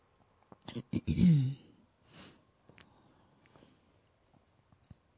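A single throaty cough bursts out during an otherwise silent pause, followed by a soft breath and a few faint clicks and small mouth sounds.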